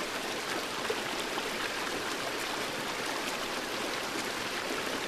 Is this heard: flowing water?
yes